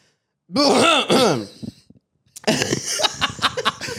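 A voice mimics a deliberate, pointed cough with a drawn-out, pitched throat-clearing sound, then after a brief pause comes a stretch of breathy, choppy noise like stifled laughter, fairly loud.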